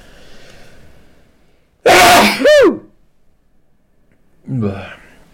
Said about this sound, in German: Es war bei dem Switch zwischen H264 und H265 und jetzt muss ich niesen.